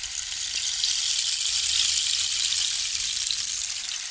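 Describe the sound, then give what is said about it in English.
A rain stick pours out a steady, bright rushing hiss, like many tiny grains trickling at once, holding an even loudness for about four seconds with no one talking. “Can you play us some kind of like rain stick music to get in the mood?”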